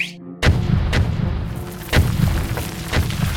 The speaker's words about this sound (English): One by one, dynamite explodes inside too many mine shafts to count.